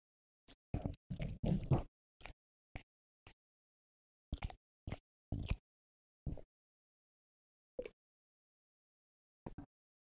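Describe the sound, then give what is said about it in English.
A pet, DJ Ranger, chews and crunches its food in short, sharp bursts: a quick flurry of bites at first, then scattered single crunches with silent pauses between them. No one speaks. “We see how he devours.”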